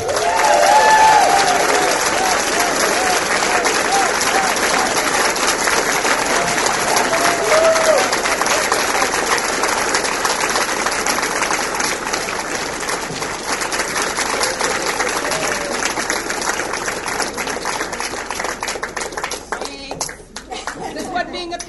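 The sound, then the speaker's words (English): Sustained applause from a large crowd for a lifelong union activist and organizer, dense steady clapping holding at a loud level for about twenty seconds before thinning out at the very end, with faint cheers and voices mixed in. “And please give a round of applause to”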